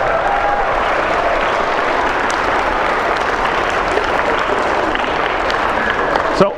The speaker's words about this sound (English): I can't tell if more of that applause came from the teachers or the parents there, but that was pretty cool.